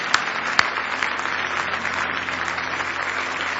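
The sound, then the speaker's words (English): A church audience at a morning service claps steadily together in a hand clap of praise to Jesus, a dense wash of many hands applauding at once with a couple of sharper claps standing out early, sustained throughout. “Well, why don't you just give Jesus another hand clap of praise?”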